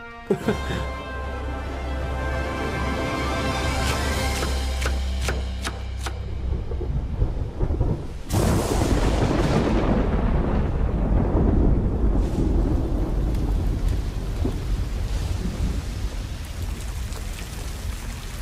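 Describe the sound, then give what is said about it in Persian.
Steady heavy rain hisses throughout, with sharp cracks and a deep rumble of thunder early on, then a loud burst midway as the downpour intensifies, from a very powerful storm moving north with rain and strong winds. “طوفانی وحشتناک به سمت شمال حرکت میکنه و با خودش باران و بادهای شدیدی رو میاره.”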